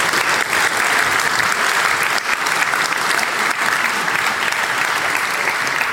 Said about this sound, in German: Applaus für die Cocktailbar.